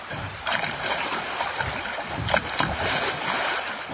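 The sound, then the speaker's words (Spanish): Water sloshes and laps steadily around a small raft waiting at the bank of a river, with soft splashes and occasional knocks against the craft, moderately loud, with no voices. “Josué los acompañó hasta la orilla del río, donde los esperaba una balsa.”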